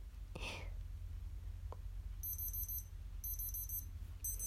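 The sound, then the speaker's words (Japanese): A digital thermometer beeps after taking a body temperature reading of 36.3°C, in three bursts of rapid, high-pitched chirps, fairly quiet, over a low steady hum, with a brief breathy rustle near the start. “なんかいきなりパッてピピピって言ったら測れた数字が見えてるのかと思ってた。”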